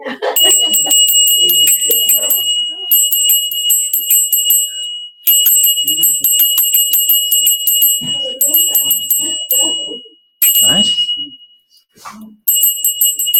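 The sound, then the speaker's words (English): A battery-powered bell rings loudly with a rapid, continuous trill, coming in several long bursts separated by brief pauses, while faint voices murmur underneath. “No, we don't have to use YouTube for our bell. You can ring.”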